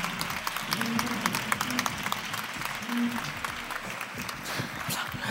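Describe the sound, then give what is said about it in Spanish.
An audience breaks into sustained applause, a dense wash of many hands clapping at once that stays steady and fairly loud for several seconds, with faint murmuring beneath. “Así que un aplauso, por favor”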